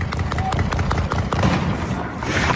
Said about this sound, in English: In this clip, published by the AP, contractors erupt in cheers as shots ring out. At that moment, bursts of gunfire erupt close by. At least 15 shots.